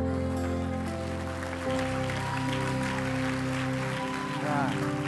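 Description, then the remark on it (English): An audience at a church deliverance service claps and shouts in a steady, noisy wash over sustained organ-like chords that hold and shift throughout, loud and continuous from start to finish. “All right, I know you don't know me, but you don't have to clap or shout anymore.”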